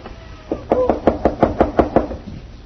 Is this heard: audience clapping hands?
no